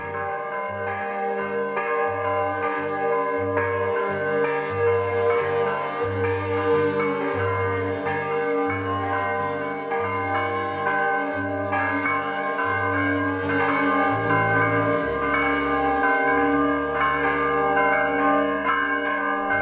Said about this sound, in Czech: Zvuk prvi zvona sa Saborne crkve kao da je probudio srpsko stanovništvo naše prestonice iz dubokog sna i kao da je oživeo sve slojeve naroda i u njemu izazvao i utvrdio verovanje u bolju budućnost Srbije i njezine prestonice.